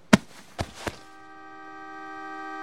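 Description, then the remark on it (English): Three quick knocking thumps, then the horn of Spike's car sounds one long, steady blast that swells louder and holds to the end, with no one talking. “That's Spike's car.”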